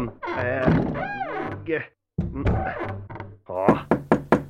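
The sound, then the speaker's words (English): A voice talks, then about five quick, evenly spaced, fairly loud knocks on a door ring out, with a low steady tone running underneath. “Knock, knock, Michael Beanie.”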